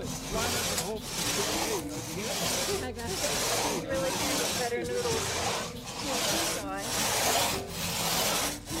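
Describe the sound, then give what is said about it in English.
A crosscut saw, used by participants working together in a crosscut saw certification training, rasps steadily through wood in a regular back-and-forth rhythm, each stroke loud and gritty, with faint voices murmuring in the background. “I think we're ready for you guys to start grabbing saws and working together.”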